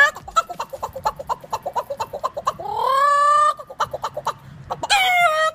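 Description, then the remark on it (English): A man's voice convincingly imitates a chicken and a rooster, with rapid rhythmic clucking pulses broken by two drawn-out, rising crow-like squawks, all fairly loud. “What if I told you this is not an animal, but an actual man doing the impersonations, voices?”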